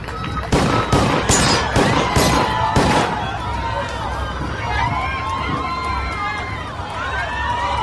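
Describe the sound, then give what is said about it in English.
A rapid burst of six sharp gunshots, fired by Hinckley with a pistol at the president, rings out in under three seconds, followed by a crowd of people shouting and yelling in panic. “He fires six shots.”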